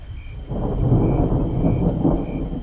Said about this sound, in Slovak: Zvuk dažďa ťa môže preniesť do príjemnej spomienky na dážď.